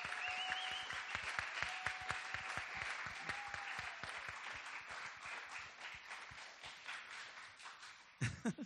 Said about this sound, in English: Entonces démosle un último aplauso a los hermanos. Let's give them a hand clap once again.